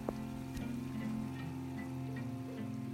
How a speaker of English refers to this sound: On a lovely rainy evening. Boy, I love the rain.